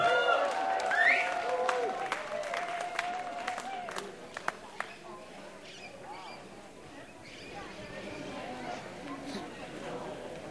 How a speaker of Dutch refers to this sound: Dank jullie wel, lieve mensen, voor het warme applaus. Dit was mijn laatste nummer.